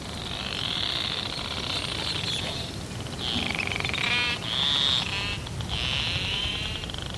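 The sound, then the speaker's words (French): Clicks from the narwhal Fram 2, picked up by fixed hydrophones, are packed so tightly they merge into buzzing creaks instead of separate knocks. Narwhals use these creaks for feeding and navigating. Several rasping bursts sound over a steady hiss of background noise, with no one speaking. “Et ces cris que vous venez d'entendre, c'est des clics qui sont tellement proches, l'un à l'autre, tellement près, l'un à l'autre, que ça devient un creak, hein, au lieu d'un toc, toc, toc, toc.”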